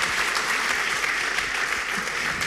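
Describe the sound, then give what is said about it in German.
A crowd at a panel talk applauds steadily to welcome a program manager of Berliner Rundfunk 91.4, a dense, even patter of many hands clapping at a loud level with no break in the sound. “Gerne klatschen.”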